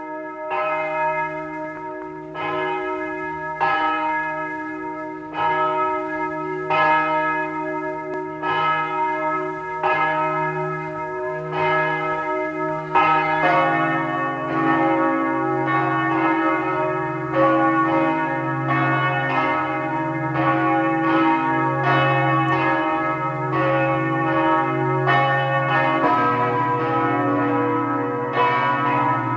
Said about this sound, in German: Es ist 12 Uhr, Sie hören die Glocken der Pfarrkirche von Lackenbach im Burgenland.